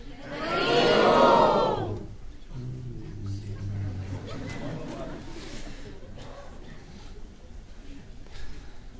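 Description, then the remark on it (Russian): A crowd shouts the chant "Hari Bol" together in one loud, ringing burst lasting about two seconds, then it fades and a single voice carries on talking. “Поднимите руки и крикните «Хари Бол».”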